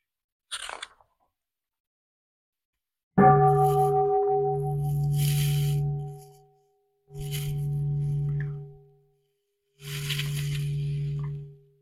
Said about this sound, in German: Und da hätte ich jetzt gerne Glocke.